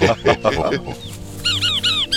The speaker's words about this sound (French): C'est quoi ce bruit? Une grenouille. Ah oui. Ou alors, c'est une poule, mais qui est bien malade quand même.